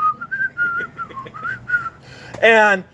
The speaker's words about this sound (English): So I started whistling in the back seat. You know, just kind of whistling.